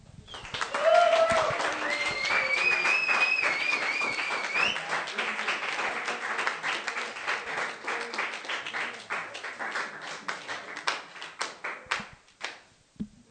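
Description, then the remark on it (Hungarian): An audience applauds warmly to welcome a speaker at the start of an event, dense clapping for several seconds before thinning into scattered individual claps; a few whoops and cheers rise briefly near the start. “És kérlek, hogy fogadjátok őt nagyon nagy szeretettel és egy tapssal.”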